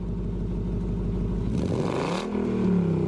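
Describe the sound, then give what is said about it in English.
A loud car engine of a 1968 Ford Mustang idles with a rough, rhythmic rumble, then revs up sharply with a rising roar before settling into a steady, higher hum. No voices are heard. “Wow, I love your car. What year is it? It is a 1968 Ford Mustang.”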